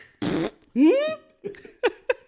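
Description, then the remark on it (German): A loud fart: a short raspy burst followed by a longer squeaky, rising toot, then a few brief soft bursts that sound like stifled laughter. “das war der erste Pups vor ihm und der war unangekündigt, sowohl bei mir als auch bei ihm.”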